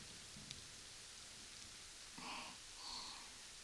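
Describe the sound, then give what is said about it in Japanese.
Steady rain falls as a soft, constant hiss, fairly quiet, on a simple shelter made of woven and layered tree branches and leaves, with a couple of brief tonal chirps in the background and no talking. “雨降ってるね。”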